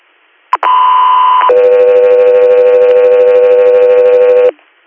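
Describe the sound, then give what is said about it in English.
Radio dispatch alert tones: after a quick click, a loud steady higher tone holds for about a second, then drops to a lower, slightly buzzy tone sustained for three seconds before cutting off. “Go through air, standby for tones.”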